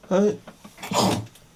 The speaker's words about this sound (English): Bless you.